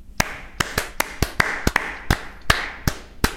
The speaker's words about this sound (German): Jetzt müssen wir beide einmal klatschen.